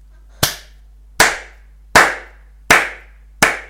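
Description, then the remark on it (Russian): Measured, deliberate applause: five sharp, loud hand claps at a slow, perfectly even pace, about one every three-quarters of a second, with no voices. “Они молча переглянулись, смущенные, но непокорные, и тут послышались размеренные аплодисменты.”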